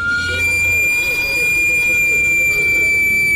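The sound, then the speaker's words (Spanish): A sweet potato cart's steam whistle, steam escaping as pressure rises in the cart where sweet potatoes and plantains are cooked, blows one steady, shrill, high-pitched tone with bright overtones, holding unbroken for several seconds over a low rumbling murmur of background noise. “Y aunque parece un simple silbato, en realidad es el escape de vapor del carrito donde se cocinan los camotes y los plátanos.”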